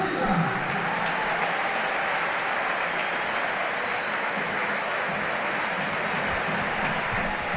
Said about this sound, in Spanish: Los aplausos para uno, la indiferencia para el otro.